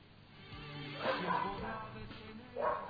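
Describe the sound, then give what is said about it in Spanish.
A dog barks twice, a short pair of barks about a second and a half apart, against a quiet background, during the quarantine. “Anda el perro por ahí.”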